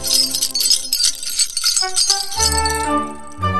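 The little bells of a jester's costume jingle in a bright, rapid shimmer, then settle into sustained ringing tones over a low hum for the last second or so. No one speaks.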